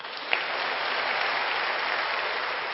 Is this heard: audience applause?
yes